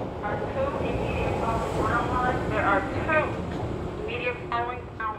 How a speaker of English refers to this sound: Each train car that passes looks fuller than the last. In their rush to get home, commuters smush themselves into the train cars before the doors warn them to get out of the way.